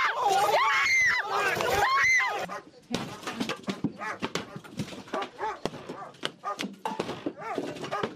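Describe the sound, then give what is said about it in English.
A dog yelps and whimpers loudly in rising, wavering cries, then the scene turns into a chaotic jumble of thuds, scuffling and overlapping voices. “Axes, guns, dogs.”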